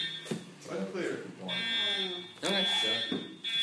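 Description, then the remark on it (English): A high, steady electronic alarm tone beeps and sustains in the background, continuing under conversational speech that runs through most of the moment. “Why is the alarm linked to, like, this thing freaking out?”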